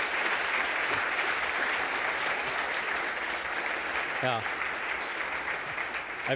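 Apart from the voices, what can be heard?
warm applause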